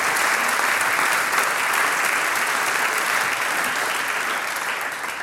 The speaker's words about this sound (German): Ein Glücksgriff, Stubalmblech, Dankeschön, euer Applaus.